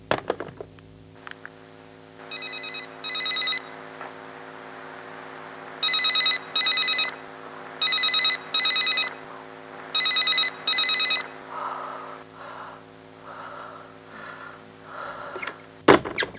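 A telephone rings in a classic double-ring pattern, four pairs of bright electronic trills spaced evenly apart, fairly loud, over a steady low hum with no one speaking.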